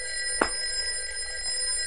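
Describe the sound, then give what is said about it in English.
A telephone bell rings steadily throughout at 2 a.m., a bright sustained metallic tone with a brief thump near the start. No one speaks. “it's the phone again.”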